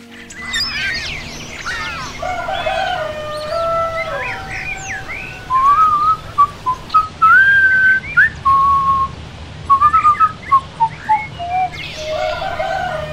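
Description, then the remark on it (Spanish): A man whistles a song in the morning as he starts his day, a bright, wavering tune in short melodic phrases, clear, while birds chirp and tweet in the background before and after. “en camiseta y pantalones cortos, inicia su jornada silbando una canción.”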